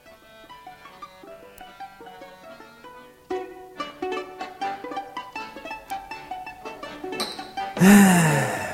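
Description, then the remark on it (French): Gentle melodic music plays for several seconds, then a man lets out a loud, drawn-out yawn, breathy and voiced with a sliding pitch, right at the end. “Oh, tu bailles, l'ami?”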